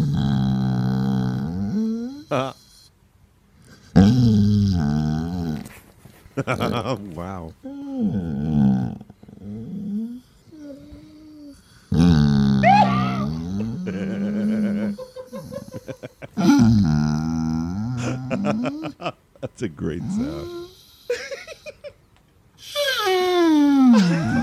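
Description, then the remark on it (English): A grumpy basset hound wanting attention grumbles and groans at an iPhone in long, warbling, drawn-out bursts with short pauses between, its voice rising and falling almost like talking; a person briefly speaks partway through. “This is a grumpy basset hound that just wants attention.”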